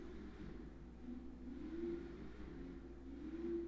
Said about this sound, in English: Y'all, I absolutely hate when people make noise in the morning. I hate when them stupid motor cars just can't get it together on the first ignition. I can't. That irks my nerves.